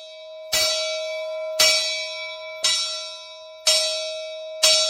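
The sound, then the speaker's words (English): A bell rings at 8 o'clock at a guest ranch to announce breakfast, in steady, evenly spaced strokes, about five clear clangs, each leaving a long bright ringing tone that carries into the next. It is loud, with no voices. “At 8 o'clock, a bell announces breakfast.”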